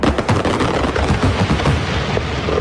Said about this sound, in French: Feux d'artifice, effets pyrotechniques. RDN à Quincennes, votre partenaire de la fête.